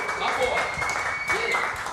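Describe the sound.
Audience applause fills the whole stretch, a dense, steady wash of many hands clapping at an even loudness, with cheering voices mixed in and a faint sustained high tone underneath.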